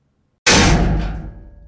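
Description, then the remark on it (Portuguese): A single loud metallic bang of a chair struck against a steel door by a biology teacher, followed by a ringing, reverberant decay that fades over about a second. No voices. “Mas abri os olhos o suficiente para assistir enquanto o professor de biologia batia uma cadeira repetidamente na porta de aço.”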